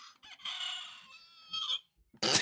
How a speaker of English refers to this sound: My rooster is running out of battery. Chicken is dying over there.